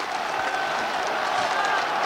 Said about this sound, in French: Et sous les acclamations, il gravit lentement la tribune. Il accède maintenant, les bras levés en V, selon son geste familier, devant la foule qui l'acclame.